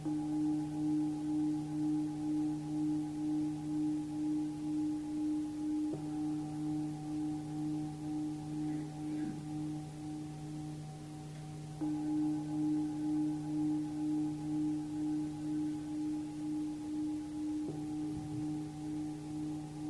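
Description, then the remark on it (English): A meditation chime rings with a sustained, layered tone that pulses gently as it sustains. It is struck afresh roughly every six seconds to mark breathing in and breathing out in a guided breathing meditation, with no voices. “Breathing in for one chime. Breathing out the next chime.”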